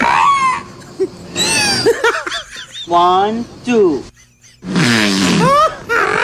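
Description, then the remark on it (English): A string of recorded whale vocalizations: rough, fart-like grunts mixed with wavering, rising and falling moans, coming in several loud bursts with short gaps, and a voice briefly speaking in between. “It sounds like the whale farts and then gags because of his own fart.”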